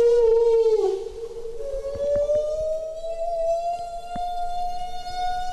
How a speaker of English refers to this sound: These are the sounds that humpback whales make when they're feeding. And it's these sounds that the whale rescue team started piping underwater this morning from a Coast Guard cutter, with the hopes that the mother whale and her calf will follow.